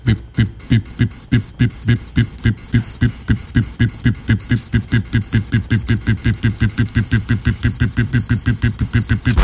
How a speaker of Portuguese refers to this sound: Bomba relógio.